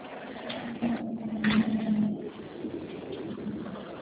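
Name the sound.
truck passing by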